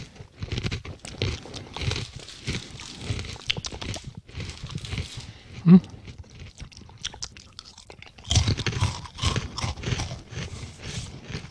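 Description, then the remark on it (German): Loud crunching of crispy tomato-salsa flavored snack crackers with a cheese note, with dense bursts of crackly chewing that ease off in the middle before picking up vigorously again toward the end. “Die knuspern sehr schön. Und sie sind auch noch knusprig.”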